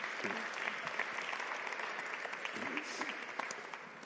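Steady audience applause fills the whole stretch, a dense patter of many hands clapping at an even loudness, with faint voices murmuring underneath.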